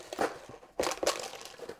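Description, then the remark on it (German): A bag of cookies crinkles in a few quick, irregular bursts of rustling plastic, with two sharper crackles in the middle and no voices. “Oh, eine Tüte Kekse.”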